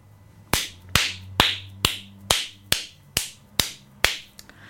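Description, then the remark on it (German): Hands clap eight times in a steady, even rhythm, each clap crisp and sharp with a brief ringing tail, over a faint low hum and no voices. “Klatschen tut auch sehr gut.”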